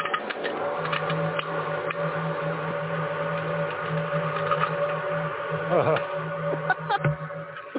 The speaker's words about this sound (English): That's probably the vent going on. Because, you know, like, when you start, turn the light on in the room.